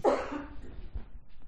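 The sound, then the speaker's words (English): A single sharp sneeze or cough bursts out at the very start, then fades into faint low background rumble with no one speaking. “God bless you.”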